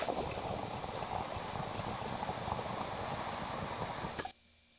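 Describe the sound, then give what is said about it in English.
Steady water bubbling and gurgling in a glass dab rig being pulled with the cap on runs continuously for about four seconds, then stops abruptly, leaving near silence. No one speaks. “I'm going to pull on it again and just kind of play with it and figure it out”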